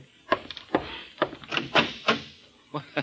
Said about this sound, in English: hold the phone, huh? There's someone at my door.